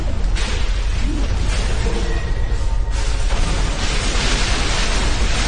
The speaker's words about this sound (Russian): Эти балки держат не только потолок туннеля, но и улицу над ними. Туннели наполняются грохотом обрушающихся стали и цемента, а улица над ними начинает рушиться вниз.